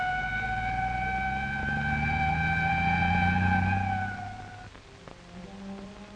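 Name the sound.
ambulance driving with siren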